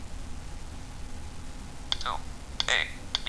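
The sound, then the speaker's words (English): A Braille device in telephone keyboard mode gives a few short, high-pitched beeps as keys are pressed, because no edit box is active, spaced irregularly over a couple of seconds against a steady low background hiss. “Oh, the reason it beeps right now, because I'm not in any edit box that I can enter in information.”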